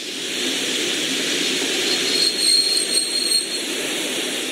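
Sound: steam train arriving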